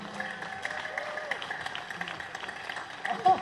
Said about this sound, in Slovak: Prosím, veľkým potleskom privítajme